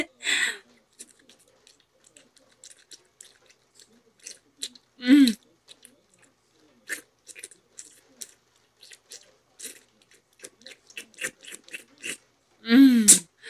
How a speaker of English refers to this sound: You're somewhat prim and proper neighbor, on her knees in front of you, slurping on your cock.